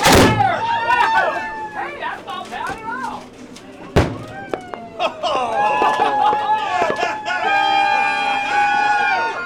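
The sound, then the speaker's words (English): A single loud firework bang bursts out midway through a lively crowd of excited voices on a boat, the firework exploding in a golden shower above the boat, followed by continued cheering and chatter from around 15 passengers. “Around 15 passengers on the Nolani rush forward to watch the firework explode in a golden shower above the boat.”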